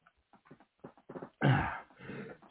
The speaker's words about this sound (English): I was trying to avoid that cough, but clearly that didn't happen, so I'm going to open up a Hall's cough drop and put it in my mouth.